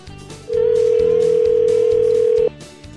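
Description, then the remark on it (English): A telephone line tone sounds as a call is placed to Bayview Bait and Tackle in Gladstone: one loud, steady, mid-pitched beep lasting about two seconds, over a soft rhythmic background bed with no talking. “Let's dial him up here at Bayview Bait and Tackle in Gladstone.”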